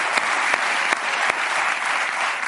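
Steady audience applause, a dense wash of many hands clapping at a constant loud level, with a few sharper individual claps standing out, and no voices.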